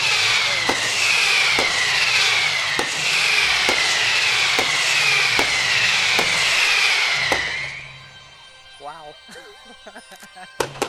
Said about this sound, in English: I'm waiting for the bigger rockets to go over the top, because all of this that you can hear now, these fireworks are just creating, here we go, creating a lot of extra light around the central display.